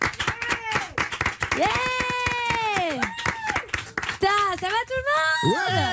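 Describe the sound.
A TV studio audience on a Sunday afternoon show claps steadily for about six seconds to welcome a young comedian, a dense, uneven patter of many hands, while voices call out and whoop loudly over the applause.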